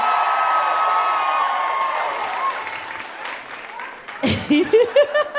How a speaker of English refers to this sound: Okay. Give it up for him one more time, everybody.